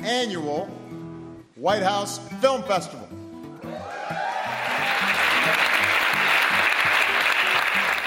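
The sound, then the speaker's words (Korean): Loud audience cheering and whoops from a crowd at the second White House Student Film Festival, responding to President Barack Obama's opening greeting, quickly building into sustained, dense applause that stays steady. “제2회 백악관 학생 영화제의 개막을 알리는 바락 오바마 대통령의 인사말에 관객석에서 환호성이 터져나옵니다.”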